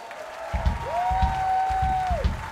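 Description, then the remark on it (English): An audience at a charity show at the Black Cat claps steadily for a couple of seconds, with a long, sustained whistle riding over the applause before it fades out. “Okay, clap now.”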